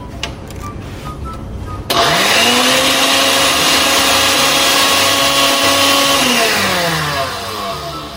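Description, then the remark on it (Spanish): A blender motor kicks on abruptly and runs loud and steady for several seconds before winding down, blending cooked sauce ingredients with some of their cooking water, salt and pepper; faint clinks and background noise precede it. “Una vez cocinados, vamos a licuar todos los ingredientes agregando un poco de agua donde se cocinaron.”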